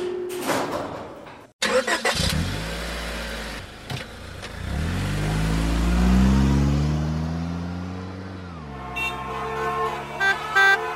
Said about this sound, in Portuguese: Ah, meu Deus, que trânsito infernal! Olha ali que barbeiro, meu Deus, só tem barbeiro nessa cidade.